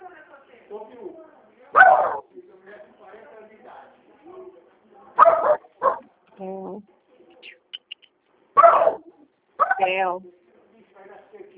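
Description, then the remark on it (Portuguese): A small dog barks sharply about five times in scattered single and paired yaps, loud, while a person talks quietly in between. “É Theo aí também, cachorrinho?”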